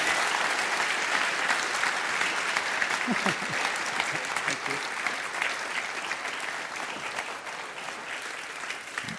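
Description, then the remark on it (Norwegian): Sustained applause from a sizable audience after two keynote talks, a dense steady patter of many hands clapping that holds fairly even for several seconds before easing slightly toward the end. “So, big applause.”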